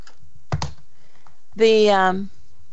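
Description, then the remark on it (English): A single bright, steady electronic tone of a ringing phone sounds for under a second, following a brief clattering thump near the start; no one speaks. “I apologize, ladies and gentlemen, because this is just, I don't know how to stop this phone from ringing.”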